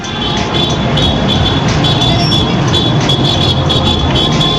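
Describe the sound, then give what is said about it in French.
Car horns honk over a loud, dense wash of street noise and crowd clamor as young people shout and honk in the streets of Tehran, Iran, on an evening, the tones sustained and overlapping with no pause throughout. “Cette jeunesse de Téhéran qu'on a entendue, c'était mardi, mercredi soir, crier, klaxonner dans les rues de la capitale, montrer son envie de participer, peut-être aussi simplement de sortir, de se rencontrer, de faire du bruit.”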